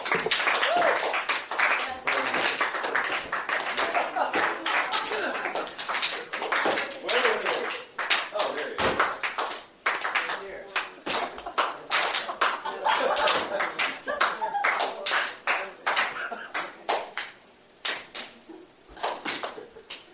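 An audience claps for about twenty seconds, a steady stream of sharp, overlapping hand claps that stays loud before thinning into fewer, scattered claps near the end.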